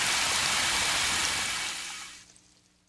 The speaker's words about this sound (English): And when the water hit the canvas,